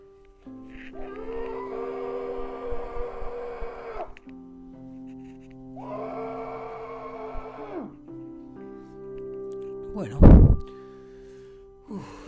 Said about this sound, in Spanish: Entonces, en este momento, voy a probar con una remera que tengo acá, gritar.